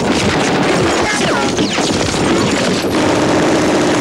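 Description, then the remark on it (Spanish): Dense, relentless machine-gun fire from a German fortification overlooking the beach: rapid bursts of automatic weapons overlapping with booms and crashes in a loud, chaotic battle din, with faint shouting voices mixed underneath. “Desde la fortificación alemana que domina la playa disparan a discreción.”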